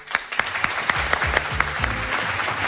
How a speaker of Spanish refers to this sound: Primero, a todos los que han venido a vernos aquí a Las Palmas, y ahora os doy el aplauso a vosotros, y eso que dice el EGM, que no hay nadie que nos escuche.